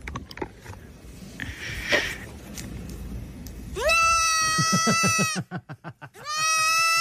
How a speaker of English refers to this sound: So imagine you're a human holding a goat in your arms and you're spinning around like that with a goat facing you. I getcha. So the goat is faced. All you see in the shot is the goat being spun around and the goat's reaction goes something like this.